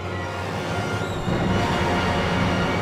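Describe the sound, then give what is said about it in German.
A steady, rushing whoosh of an orchestral wind machine, a turning wooden drum rubbing against stretched cloth, in Richard Strauss's Alpine Symphony, broad and hissing, swelling slightly louder partway through over a low sustained rumble. “Windmaschine.”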